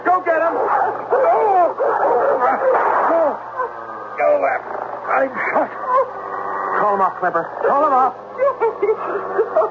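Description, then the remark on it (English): A dog barks and yips repeatedly in quick, excited bursts for several seconds, loud, over a steady low hum with what may be muffled voices mixed in. “The dog.”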